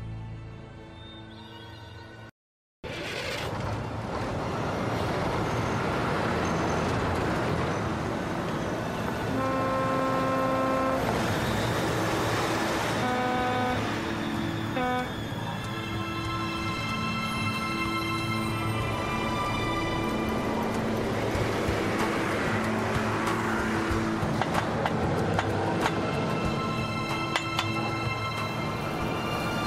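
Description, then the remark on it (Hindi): A car moves through busy street traffic, with a steady loud engine and road rumble and several horn toots sounding around the middle, plus neighing-like cries. Nobody speaks. “गाड़ी चलाओ।”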